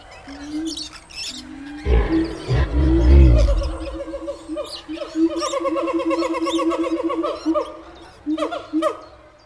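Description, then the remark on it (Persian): A deep, rumbling roar swells for a couple of seconds, then gives way to a busy chorus of repeated harmonic animal calls and bird-like cries, evoking Naser al-Din Shah's zoo in Tehran, which held tigers, leopards, lions, bears, hyenas, apes, monkeys and peacocks. “معیرالممالک، یکی از نوه‌های ناصرالدین شاه، توی خاطراتش نوشته که در این باغ وحش حیواناتی چون ببر، پلنگ، شیر، خرس، کفتار، بوزینه، میمون و تعدادی طاووس وجود داشتند.”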